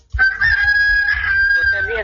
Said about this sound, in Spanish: Ok, ahí le están cantando el gallo. Sí, está cantando el gallo,